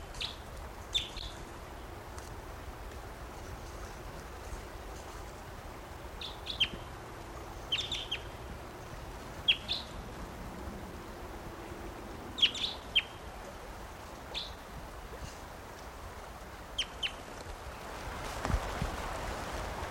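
wild bird chirping

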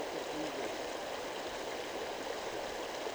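flowing creek water

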